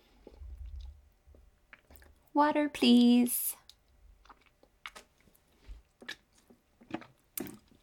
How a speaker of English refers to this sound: And salty and hard. Give me a little bite. Crispy. Some kind of cracker. I don't know what kind.